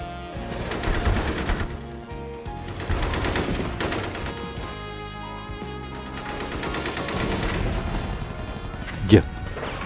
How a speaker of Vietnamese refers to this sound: Chúng tôi được chào đón thật là khủng khiếp, như vô số những cái tiếng đạn pháo từ quân cộng sản.